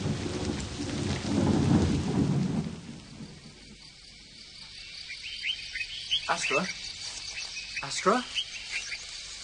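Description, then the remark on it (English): Steady rain hisses through a storm, with a deep roll of thunder rumbling in the first few seconds, then the downpour eases slightly as scattered high chirps break through. “It'll rain forever and ever.”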